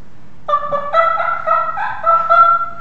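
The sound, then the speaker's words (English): A loud turkey gobble made with a game call: a rapid, rattling run of throaty warbling notes lasting a couple of seconds after a brief silence, with no talking. “That's a cow elk sound, and the turkeys now are gobbling.”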